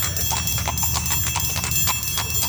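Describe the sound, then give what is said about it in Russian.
Steady, brisk clip-clop of horse hooves pulling a carriage, with a continuous ringing Valdai harness bell over a low rumbling undertone; no voices. “Для пешего перехода марш и походная песня, для перевозки поклажи на животных песни погонщиков, для езды в конной повозке всем известные ямщицкие песни, знаменитый валдайский колокольчик.”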